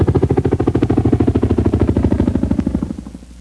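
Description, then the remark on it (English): A CH-47A Chinook helicopter flying in low and fast, audible to enemy gunners more than 8 miles away, its rotors beating out a loud, rapid and steady thudding pulse over a deep engine drone, which drops away abruptly near the end. “Even coming in low and fast, this CH-47A Chinook is advertising its presence to enemy gunners more than 8 miles away.”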